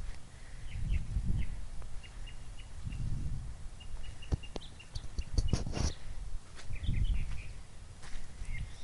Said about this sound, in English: Alright, we're a little close to the bird here. Do you hear it?